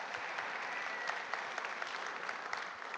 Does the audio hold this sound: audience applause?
yes